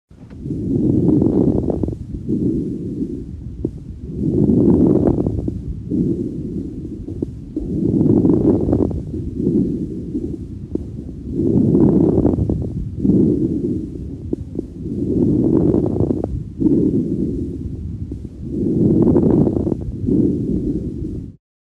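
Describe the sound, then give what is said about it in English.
Late inspiratory lung crackles through a stethoscope: six rhythmic breath cycles, each a low, rumbling rush of air that peaks with brief crackling toward the end of the inhalation, with no talking. “Listen now to a recording of end or late inspiratory crackles that could be associated with interstitial lung disease, pulmonary edema, or pneumonia.”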